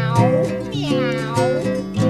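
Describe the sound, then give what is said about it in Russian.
A cat named Vasily meows in drawn-out, wavering cries that rise and fall in pitch, fairly loud, with a steady tonal background running underneath. “Кот Василий не простил.”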